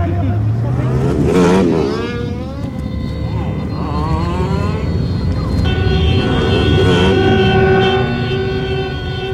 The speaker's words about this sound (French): Voilà, après cette brève évocation sonore de la rue et de ses voitures